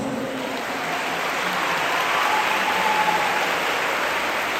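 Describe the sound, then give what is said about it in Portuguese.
A crowd applauds Jesus at a student games event in Capinópolis, with steady, dense clapping that forms a continuous hiss-like wash of sound, holding at an even, fairly loud level throughout with no voices heard. “Por isso, palmas para Jesus.”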